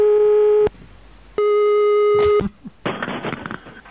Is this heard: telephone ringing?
yes